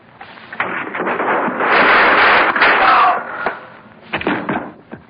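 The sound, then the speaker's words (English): Gunshots, in which a man is shot, ring out as sharp cracks, followed by a long, harsh roar of noise and then a quick cluster of further loud reports near the end. “I just shot a man.”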